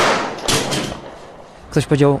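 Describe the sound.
At a news conference, with the camera still rolling after the colonel cuts it short and steps out of view, a round is chambered in a weapon and a gunshot rings out: two sharp, fairly loud bangs in quick succession over a noisy background, followed shortly by a brief burst of a person's voice.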